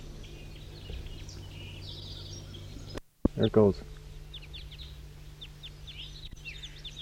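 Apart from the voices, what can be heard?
bird calls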